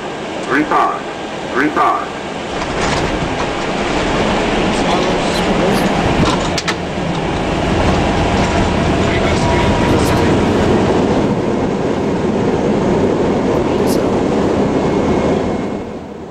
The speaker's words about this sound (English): And I'm sorry to disappoint you, this plane is not going to crash. At least not now. This is almost a picture-perfect landing in an A320. Things that he's saying now is 70 knots and taxi speed, which means reduce reverse thrust from maximum power